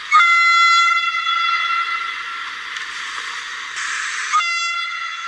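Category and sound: vehicle, train passing with whistle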